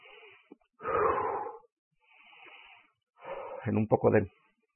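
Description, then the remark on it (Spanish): Heavy, labored breathing after physical exertion: a few loud, rough exhales alternate with softer inhales, the last breath catching into a voiced, gasping sound. No words are spoken. “Mi respiración está un poco fuera de lo normal, pero estoy listo.”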